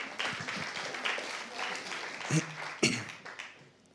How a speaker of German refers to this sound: Mal einen Applaus für euch.